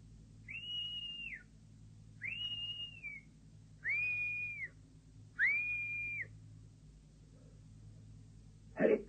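Four clear, steady whistle blasts given as a signal, at an even pace, each held about a second with a slight drop at the end, over a low background rumble; no one speaks.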